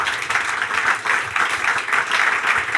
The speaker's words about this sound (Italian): Grazie, applausi. Grazie mille.